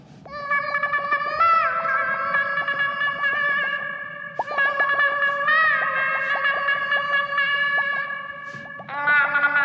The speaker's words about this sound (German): Unter Wasser klingt dein Gesang wunderschön.